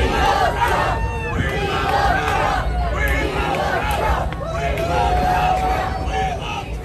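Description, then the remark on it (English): A large outdoor crowd shouts and chants together, responding to Ron DeSantis as he flips pork chops, with chants of "We want Trump" and "We love Trump." Many voices blend into a loud, steady roar that carries for the full few seconds with overlapping yells rising and falling. “And this is the response that DeSantis got from the crowd while he was flipping pork chops.”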